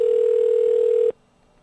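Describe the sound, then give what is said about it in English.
A steady, loud landline telephone dial tone hums without a break for about a second, then cuts off abruptly into near silence, on a phone where 9 is dialed to get an outside line. No voices are present. “Dial 9 to get out. Just going to try this twice. Try a landline, try a cell phone.”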